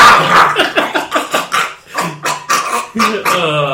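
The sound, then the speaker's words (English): A person imitates Michael Vick's dog barking: a rapid string of short, loud, rough yelps in quick rhythm, ending in a drawn-out voiced note. “And he could bring his dog around.”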